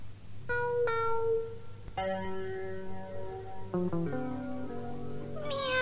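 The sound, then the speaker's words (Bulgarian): A kitten meows several times in close succession as it cautiously approaches a little house, high, thin, tonal cries with short gaps, over a steady low background hum. “И котенцето започна предпазливо да се приближава към къщичката на Бъч. Мяу!”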